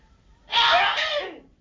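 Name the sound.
sneeze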